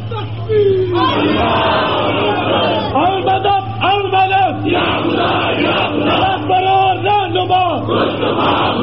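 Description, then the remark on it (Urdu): A large crowd loudly chants religious slogans in unison, voices rising in repeated rhythmic bursts over a steady low hum that runs throughout. “گلی گلی, گاؤں گاؤں, قصبہ قصبہ, محلہ محلہ گھوم جاؤ, اصحاب رسول کی عصمت کے ترانے گاؤ, دین کی سربلندی کے نعرے بلند کرو, گھر گھر جاؤ اور اس دینی تاریخ کا ہر مسلمان کو حصہ بنا دو.”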